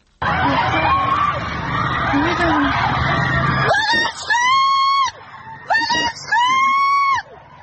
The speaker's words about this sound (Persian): تصاویری منتشر شد که ماموران در حال بازداشت تعدادی از دانشجویان هستند و دانشجویان هم از داخل خوابگاه دارند به این اقدام ماموران امنیتی اعتراض می‌کنند و فریادهای اعتراضیشون به گوش میرسه. صدای یکی از این ویدیوها رو میتونیم بشنویم الان.